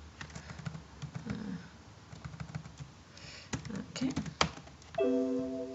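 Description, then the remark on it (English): Irregular clicks of typing on a computer keyboard, moderately quiet, with a low murmur in the background and a brief steady electronic tone near the end. “I haven't changed my keyboard to Spanish.”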